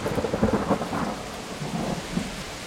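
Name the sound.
thunderstorm with heavy rain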